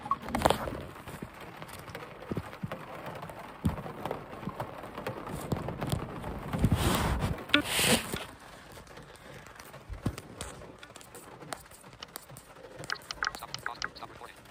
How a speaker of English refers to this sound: And it's pouring down rain. Holy shit.